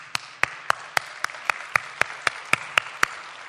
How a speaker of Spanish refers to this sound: ¿Por qué no se dan un aplauso unos a otros?